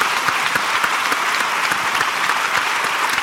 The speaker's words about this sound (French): Eh bien, on peut l'applaudir.